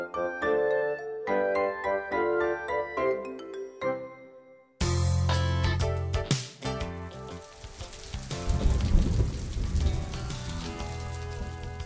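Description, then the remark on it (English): A rumble of thunder breaks in over a bright, tinkling tune, followed by a steady patter of rain that swells louder toward the end, mixed with the music. “I hear thunder. I hear thunder. Oh, don't you? Oh, don't you? Pitter-patter raindrops.”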